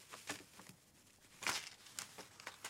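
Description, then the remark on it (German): Paper with pasta glued onto it is pressed onto an ink pad and then printed onto another sheet, making several soft crinkling rustles in irregular bursts, fairly quiet and with no talking. “Okay, dann drücke ich jetzt mal das Papier mit den aufgeklebten Nudeln in das Stempelkissen. So. Und druck jetzt das auf ein anderes Papier.”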